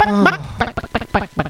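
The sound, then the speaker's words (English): A voice imitates a chicken: one drawn-out squawk, then a quick, even series of five clucks, close and fairly loud, with no other sounds around them. “Now there was a chicken.”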